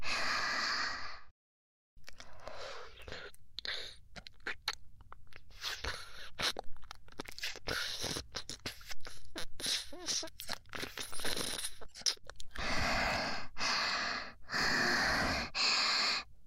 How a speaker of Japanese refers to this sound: 吐息かかるの気持ちいいですか？